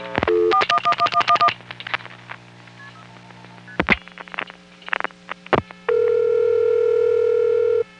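A quick burst of telephone dialing tones beeps in fast succession, followed by a few sharp line clicks over a low hum, then a steady, loud tone holds to the end.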